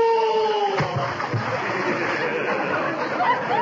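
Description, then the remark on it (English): A loud splash as someone tumbles into water, followed by several seconds of churning, sloshing water. A brief voice is heard just before the plunge. “Now look what you've done. Now I'm all wet.”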